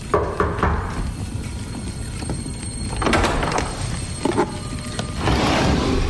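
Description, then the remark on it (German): A few dull knocks on a wooden door, spaced irregularly over a low rumbling background that sounds like a train, followed by a longer rushing, scraping noise like something being pushed aside or a door being slid open. “das Klopfen klingt wirklich wie gegen eine Holztür eher absolut”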